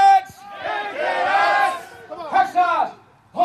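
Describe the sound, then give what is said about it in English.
A group of Navy boot camp recruits shouts together in loud, drawn-out bursts, a sustained unified yell followed by two shorter chanted shouts, rising and falling with strong harmonic tone, answering a drill instructor's question about the Navy's top officer. “All your shipmates are just screaming it.”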